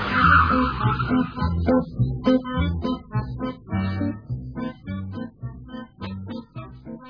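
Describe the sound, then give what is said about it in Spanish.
A car drives through traffic, its engine rising and falling in uneven bursts as it speeds up and slows, with a brief high squeal of brakes near the start. “¡Y mira el tráfico”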